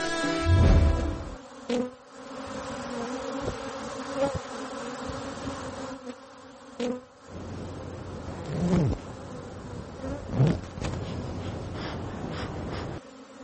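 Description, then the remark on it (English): A dense, steady hum of many honeybees buzzing around a hive on the rooftop of the Midtown Hilton hotel at Sixth Avenue and 53rd Street in Manhattan, New York City, with individual bees droning louder as they fly past and fade away. No one speaks. “可是，在位于第6大道和53街路口的中城希尔顿酒店的屋顶上，就有一群蜜蜂在辛勤的劳作。”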